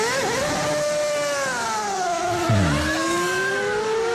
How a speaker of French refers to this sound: Livre à glisser à la vitesse d'une Formule 1, livre qui peut se résumer en un bruit et pas n'importe lequel, celui du moteur de la dernière Ferrari piloté par Michael Schumacher.